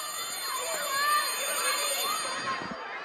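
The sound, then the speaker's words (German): On a warm, sunny September morning in 2016 in Cameroon's English-speaking Northwest Region, a school bell rings steadily for a few seconds for the first time after the holidays, a bright sustained metallic tone, while a crowd of children's voices chatters and calls underneath. “Zum ersten Mal nach den Ferien läutet die Schulglocke.”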